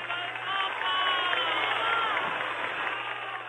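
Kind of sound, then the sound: crowd, crowd clapping and cheering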